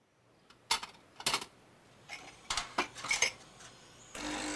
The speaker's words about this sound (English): I was making a coffee.